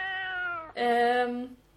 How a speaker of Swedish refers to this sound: Och 5 dagar senare så kommer det en liten kissemiss. Skuttandes och jamandes.